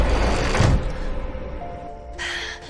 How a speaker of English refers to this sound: An attic door shuts.